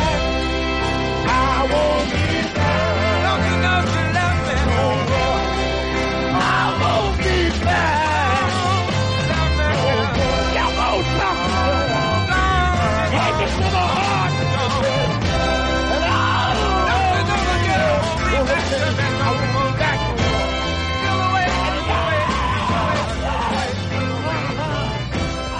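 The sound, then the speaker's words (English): A full soul band plays steadily while a male singer lets out raw, high shrieks and shouts over the horns and rhythm section during the song's fade-out, loud in the mix. “It's a great shriek in there on the fade.”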